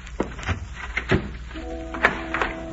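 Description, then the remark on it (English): A door thuds shut, followed by a few sharp clicks and knocks as a lock is turned. A faint steady hum rises in the background near the end. “Sorry, but I'll have to lock your door.”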